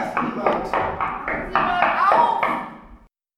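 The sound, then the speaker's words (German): Knocking on a door, a steady series of about eight firm raps, with a muffled voice blending in underneath before it stops abruptly. “Na, möchten Sie gern wissen, wer da als Überraschungsgast geklopft hat?”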